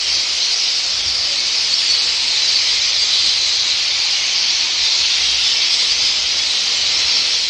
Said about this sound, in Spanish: Son pájaros, evidentemente, como si de la película de Hitchcock, Los pájaros, se tratara. Bandadas y más bandadas, miles de estorninos buscan entre las ramas de los árboles un lugar donde dormir,